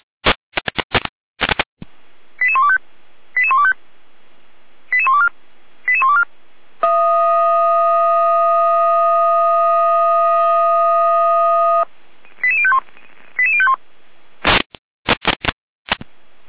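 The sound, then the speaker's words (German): Fire brigade radio alerting tones from Gera: short bursts of rapid beeping tone sequences, then a long steady buzzing tone for about five seconds, more beep sequences, all framed by crackling squelch bursts at start and end. “Gera mit Alarmierung.”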